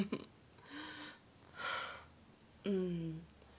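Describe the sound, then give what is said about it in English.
Shaky, uneven breathing: two airy, trembling breaths followed by a louder one that turns voiced, with a wavering, quivering tone. No talking. “Breathing's getting shaky now.”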